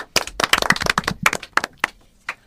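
A short burst of applause from a small group, quick overlapping claps that start strong, thin out, and trail off into a few scattered final claps within a couple of seconds.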